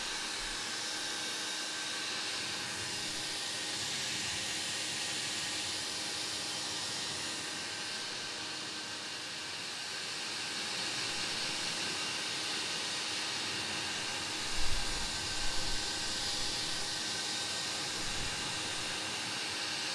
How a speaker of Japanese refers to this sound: このままパパーっとやっちゃうよ。目の前はほら、話しながらだと顔を見ちゃうから、ね。だから、ドライヤーがおろそかにならないように、喋らずやっちゃうよ。